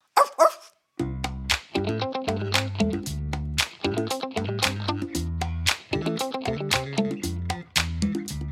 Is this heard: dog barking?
yes